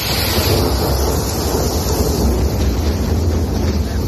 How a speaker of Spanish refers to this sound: Entre lo del lunes y lo de esta madrugada con los truenos, bueno, mucha gente, como vemos, el 100% de los que estamos en esta mesa se despertaron a las 3:30 de la mañana con truenos que eran una pasada como este.